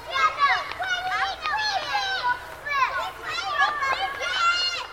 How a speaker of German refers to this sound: Die spielenden Kinder des ungeliebten Nachbarn dagegen empfindet manch einer als individuelle Störung seiner Ruhe, also als Lärm, andere aber nicht.